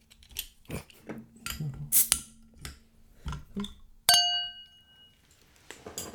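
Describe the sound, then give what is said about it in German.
A bottle of low-alcohol beer (0.41% alcohol) is handled and opened: a run of scattered clicks and glassy clinks, then one sharp metallic snap with a bright ringing tone that slowly fades, with no voices. “So, dann wollen wir noch mal gucken. So, öffni.”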